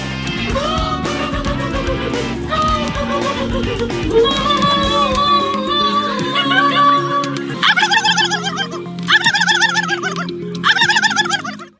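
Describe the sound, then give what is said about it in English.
People imitate turkey gobbles with their voices at the 57th annual Turkey Fair in France, a loud run of warbling, rapidly wavering calls, overlapping at first, then coming in three separate bursts toward the end. “Those were the sounds of people pretending to be turkeys.”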